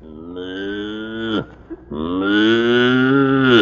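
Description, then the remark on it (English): Two long, loud cow moos, each a drawn-out low bellow with rich harmonics, separated by a brief pause; no talking. “Is the new recruit dumb? No, it's a cow.”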